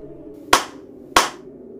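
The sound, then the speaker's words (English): Two sharp hand claps, evenly spaced about half a second apart, each crisp with a quick decay, over a faint low background hum. “Clap once for each person.”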